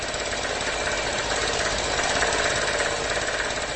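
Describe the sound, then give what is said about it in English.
A small Tiger brand generator engine powering an electricity shop runs steadily beside the concrete wall of an unfinished building, a constant rattling drone with a dense, gritty texture that holds the same loudness throughout, with no voices over it. “Williams' Tiger brand generator sits several feet away, the noise buffered by the concrete wall of an unfinished building.”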